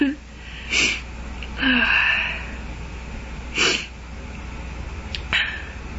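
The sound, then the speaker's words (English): Several sharp, wheezy gasping breaths from a stuffed-up person come in an uneven rhythm, fairly loud, building up as though toward a sneeze, with a brief breathy burst near the end. “I'm gonna sneeze like it.”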